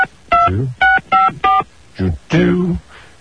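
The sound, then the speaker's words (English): Four quick, loud touch-tone keypad beeps sound in a steady run as a phone number is dialed, then a couple of short murmured vocal sounds follow. “I can't dial while I'm playing music at the same time.”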